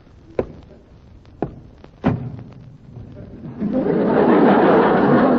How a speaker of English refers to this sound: You forgot to close the door.